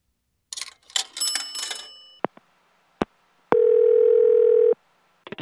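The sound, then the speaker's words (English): An old telephone bell rings in one short burst, followed by sharp handset clicks and a steady electronic tone lasting about a second, then more clicks; no one speaks. “Two phone calls.”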